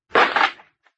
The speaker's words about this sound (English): I'll break that shutter, Captain. We'll have some light.